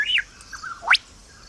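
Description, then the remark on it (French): A lyrebird sings alone, mimicking other birds: a clear falling whistle, a softer warble, then a quick rising sweep, bright against a quiet background. “je vais vous faire écouter l'oiseau lire, un petit extrait.”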